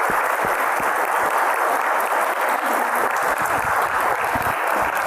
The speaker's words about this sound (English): So I'd like to thank everyone for coming. We can give a round of applause to our guests up here. Thank you.